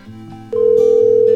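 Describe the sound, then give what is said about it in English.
A telephone sounds with a loud, steady electronic tone that switches on partway through and holds without a break over a low background hum. No one speaks. “Now the phone's just ringing over and over.”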